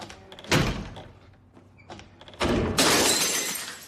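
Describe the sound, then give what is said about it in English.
A heavy thud like a door shutting, then a loud crash as a thrown champagne bottle smashes, its bright, hissing shatter of breaking glass ringing on for over a second. No one speaks. “As the door closes, Jacques throws the champagne bottle and hangs his head.”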